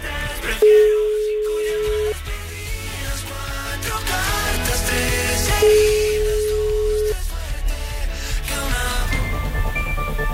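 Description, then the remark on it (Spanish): Two long, steady mid-pitched telephone ringing tones of an outgoing call placed by a radio show sound a few seconds apart, each lasting about a second and a half, over continuous loud background music. “No puede ser. Tres tonos.”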